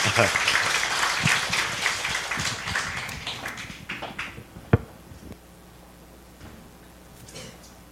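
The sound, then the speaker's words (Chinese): An audience applauds to welcome Pastor Zhang Boli, a dense burst of many hands clapping that gradually thins and fades over several seconds, ending with a few scattered claps before it goes quiet. “这个就是每一天有10万个中国人来听他讲到的 张伯利牧师，我们鼓掌欢迎他。”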